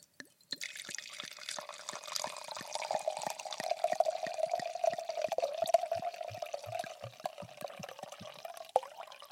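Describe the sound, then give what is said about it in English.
Wine pours steadily into a glass at home for several seconds, a continuous glugging splash with a rising fill tone, fairly loud, with no one speaking. “I need to pour my wine here.”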